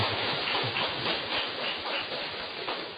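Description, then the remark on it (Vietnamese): A crowd at a Buddhist dharma assembly claps in praise, many hands producing a dense, even wash of applause that holds at a constant loudness throughout, with no voices over it. “Xin cho một tràng pháo tay tán thán.”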